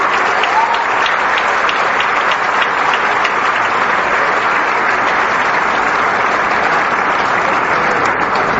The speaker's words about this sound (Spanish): ¿Dónde están los jóvenes becarios de los tecnológicos, de las politécnicas? ¿Dónde están, jóvenes? Así, a ver, párense, jóvenes. Un aplauso fuerte para estos jóvenes, por favor.